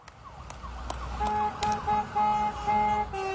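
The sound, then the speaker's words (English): Vehicle horns honk in a rapid series of loud, steady blasts over a wailing siren and low engine rumble as a parade of Brimfield school buses, fire engines, police cars and utility trucks rolls past Athens Pizza outdoors in December. “A parade of Brimfield school buses, fire engines, police cars, and utility trucks rolled past Athens Pizza in December, a tribute to pizza shop owner Tony Santinas, who died from complications related to COVID.”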